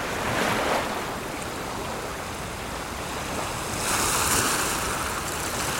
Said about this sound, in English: Look at it. Vast, endless, mysterious. The waves roll up towards us and then back away.